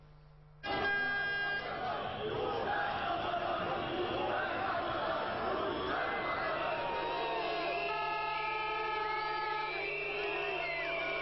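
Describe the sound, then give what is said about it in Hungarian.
A large crowd of protesters demanding the government's resignation shouts and jeers at Ferenc Gyurcsány and Gábor Demszky at a municipal ceremony by the Petőfi statue, a loud dense roar of many voices with occasional horn-like toots and whoops, beginning abruptly and sustained throughout. “A tömeg még a szózat alatt sem némult el teljesen.”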